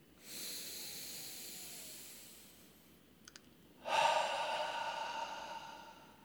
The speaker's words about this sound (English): And so for 3 breaths, we're going to let that light shine through us all, being part of one cosmic billion-celled organism, each of us perfect as we are, doing just our perfect role, simply breathing in this moment. Inhale through the nose. Last one.